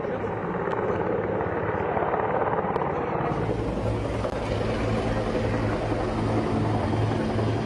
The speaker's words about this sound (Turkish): Rüzgarla birlikte helikopterler de kabinlerdeki sarsıntıyı artırabilirdi.